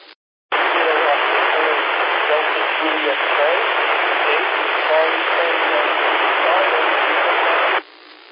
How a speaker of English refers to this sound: Okay, that last station is really, really down low in the white noise. I didn't pick you up.